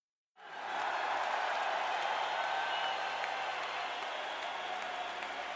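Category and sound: crowd, thunderous applause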